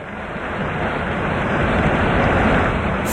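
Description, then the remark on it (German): A steady, powerful roar of rushing water fills the scene, loud, with no pauses or voices, like a large volume of water pouring in continuously as the reservoir behind the Grande Dixence dam in Switzerland is flooded in 1961. “Und dann ist geflutet worden.”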